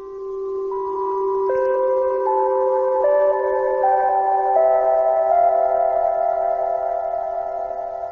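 A short electronic musical call-sign tune composed by a British rock band for the Beagle 2 Mars lander, to be sent to Earth after landing on Mars: bright, chime-like synth notes step through a simple melody, each tone held and overlapping the next, at a steady moderate loudness with no voices.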